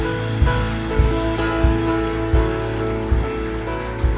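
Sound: audience clapping hands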